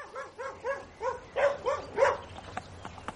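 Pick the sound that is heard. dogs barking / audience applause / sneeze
dogs barking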